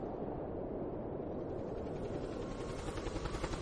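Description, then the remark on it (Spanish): A helicopter roars steadily overhead above polar ice, its dense engine rumble building into a faster, pulsing rotor chop toward the end. Fairly loud, with no voices. “2 días después, afortunadamente, un helicóptero le encontrará vagando por el hielo y le devolverá agotado, semicongelado y muerto de sed a Thule, donde comenzó su aventura helada.”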